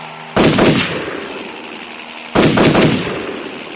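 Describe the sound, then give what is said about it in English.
Two loud bursts of heavy gunfire from a gun turned towards the sky and fired at a helicopter, about two seconds apart, each a quick cluster of sharp blasts trailing into a rumbling echo over a steady background roar. “The two soldiers turned the gun towards the sky and Bond shot at the helicopter.”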